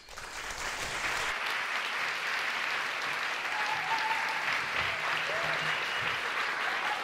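A crowd applauds loudly and steadily, a dense, continuous patter of many hands clapping for about seven seconds with no voices over it.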